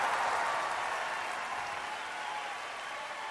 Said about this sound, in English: There was a wild applause, it was screaming and on calls.